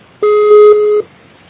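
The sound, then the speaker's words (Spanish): A single steady electronic voicemail beep tone signalling to leave a message, lasting under a second, clear, with a pure tone and faint harmonics, then near silence; no one speaks. “Por favor, deja tu mensaje después del tono.”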